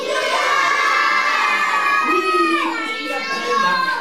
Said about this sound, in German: Die Kinder rufen fröhlich den Kasper.